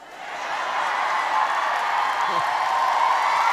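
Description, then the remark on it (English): A crowd of teachers, administrators, staff and students in the Alfred J. Luce Fieldhouse cheering for Interim Superintendent Michael Hinojosa in a steady, sustained roar that swells in the first half second and holds at an even level, with no clear individual voices standing out. “Also there, Interim Superintendent Michael Hinojosa, who wasted no time in getting the crowd cheering and laughing.”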